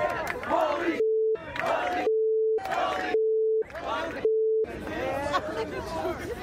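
A loud crowd cheers and shouts in bursts, repeatedly interrupted by a steady electronic beep tone, then swells into a longer stretch of roaring cheers at the end.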